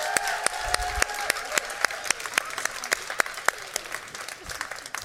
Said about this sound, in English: Please give one more round of applause for Princess Moon.